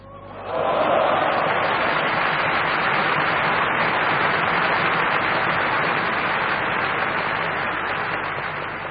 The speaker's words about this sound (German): Applaus